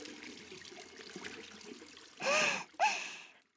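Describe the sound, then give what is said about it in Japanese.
Water runs steadily over hands for a couple of seconds, rinsing off soap foam, a soft splashing rush, followed by two loud breathy bursts in quick succession. “それじゃあ、あとは、泡を水で流して。”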